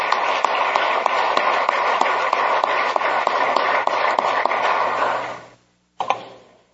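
Members of a legislative body applaud the doctor of the day steadily for about five seconds, a dense wash of clapping, then it fades out; a brief second burst of sound follows after a short silence.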